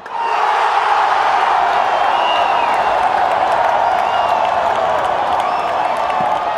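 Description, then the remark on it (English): A huge football stadium crowd at Morumbi Stadium in Brazil, at a game between Brazil and Bolivia, roars and cheers in a dense, unbroken wall of sound, loud and steady throughout, with scattered shouts and whistles rising above the din. “I went to Morumbi Stadium to record a game between Brazil and Bolivia, and the crowd was insane.”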